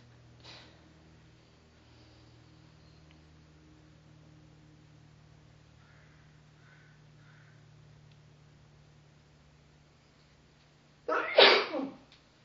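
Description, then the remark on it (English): A single loud sneeze bursts out near the end after a long stretch of quiet room hum, with a faint click near the start and soft background noise throughout. “Bless you.”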